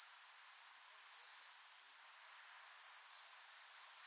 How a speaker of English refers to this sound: Although many seabirds utter groans and croaks, the pigeon guillemot produces this lovely series of trills and whistles.